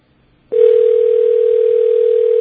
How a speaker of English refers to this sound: You're going to hear a dial tone, but it doesn't mean we've necessarily hung up on you. Okay. Okay, there it is. Don't panic. That's the dial tone.